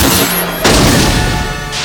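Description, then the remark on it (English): A loud, rumbling explosion of an ammunition truck bursts in about midway, spreading into a dense, crackling roar that sustains over a continuous noisy battle din, with no voices. “A second ammunition truck explodes.”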